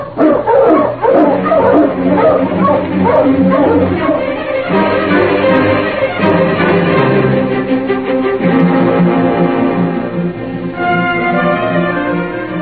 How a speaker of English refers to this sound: It's a good 2 days' trip to town, so we'll hit the trail now. Travel as far as we can, and then make camp. All right. Get the dogs up, King.